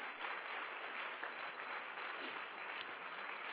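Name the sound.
audience applauding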